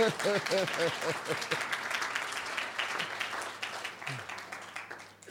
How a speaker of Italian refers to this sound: Ma qua ci voleva un applauso a Gesù